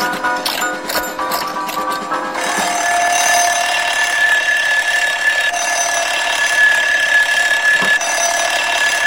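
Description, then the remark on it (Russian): A few quick ratcheting clicks as an alarm clock is wound give way to a loud, continuous metallic ringing of its bell, steady for several seconds without pause. “Заводит будильник.”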